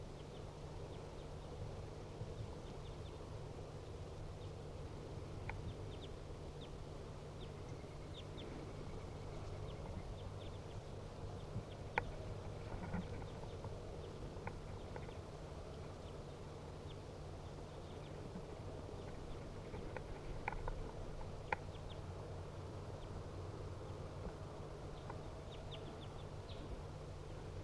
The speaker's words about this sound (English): Now they are sitting in the tree directly above the cage. Two wild birds calling.